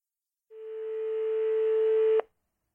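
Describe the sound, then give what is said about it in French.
A single steady telephone tone sounds for nearly two seconds, clear and fairly loud with no one talking, growing slightly stronger before cutting off abruptly. “Au téléphone.”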